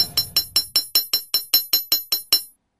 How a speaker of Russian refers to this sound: Кузнец поднял молот и звонко ударил по заготовке, которую держал подмастерье.